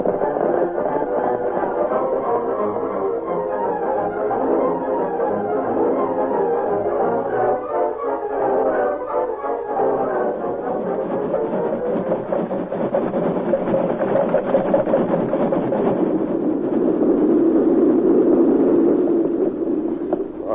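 A heavy freight train engine pulling freight cars rumbles steadily, growing louder as it draws near and rolls past with a sustained mechanical roar and clattering undertone, no voices heard.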